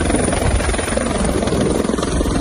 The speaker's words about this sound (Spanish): Varios helicópteros, como este que escuchas, han tratado de apagar las llamas que surgían justo en una zona montañosa entre el mar y una zona de urbanizaciones.